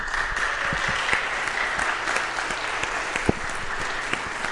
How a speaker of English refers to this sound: I haven't really talked with you guys about this yet, but because your baptism means that you're going to have victory over sin and death, let's put our hands up in the sign of victory while folks give us another round of applause.